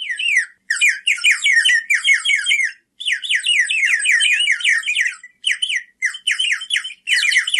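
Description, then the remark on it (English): A water bird whistle, blown through a mouthpiece so air bubbles through water over the whistle part, trills in rapid, warbling bursts, its high bubbling notes wavering up and down in pitch with brief pauses between runs, imitating birdsong. No one speaks. “there's a mouthpiece that you blow into, and then you're blowing down into like a bubble that has water in it. And that bubble of water is moving over the whistle part.”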